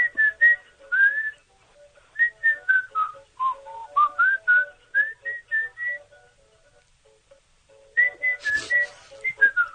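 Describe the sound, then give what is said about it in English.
A man whistles a melody in clear, sliding notes with short pauses between phrases, fairly loud, with no talking over it. “What's he whistling?”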